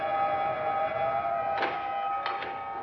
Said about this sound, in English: Wind from the sea must have shifted. Darn doors never stay closed. I'll have to have their latch attended to. No, never mind. I'll close them myself.